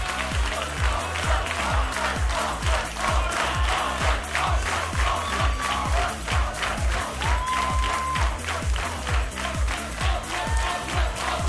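A large audience breaks into loud, sustained applause and cheering, dense clapping holding steady for several seconds, with a few whistles rising above the crowd, as a music teacher's technical helper is called up onto the stage.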